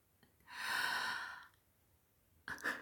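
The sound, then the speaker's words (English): Heavy, breathy exhalations with no talking: one long, airy breath swells and fades over about a second, then after a short pause a second, sharper breath begins. “Listen to my breath, the heavy breathing of a pure slut.”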